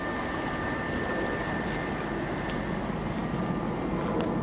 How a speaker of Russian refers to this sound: Когда бы я сюда не пришел, тут всегда гудит. Это гудят и механизмы водочистных сооружений. Трансформаторная будка и центрифуга, которая крутится день и ночь.